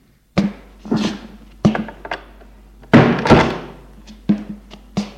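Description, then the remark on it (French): The door of an Empire-style guest bedroom being opened after a knock: a series of about eight hard wooden clunks and thuds with rattling, irregularly spaced, fairly loud, with no voices. “Il va ouvrir.”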